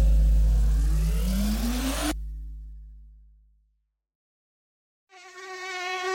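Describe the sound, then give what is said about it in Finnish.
A car engine revs up and cuts off abruptly, fading into silence before a wavering mosquito buzz whines in for the final second. “Jos mökin pian, kun sä kurvaat heti hyttysiltä turvaan, josta saat sä sisälleen, niin vaihda hyttys vapaalleen.”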